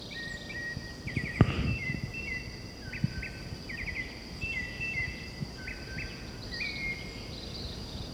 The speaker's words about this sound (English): This is white chin thrush, presumably. I haven't seen the bird yet.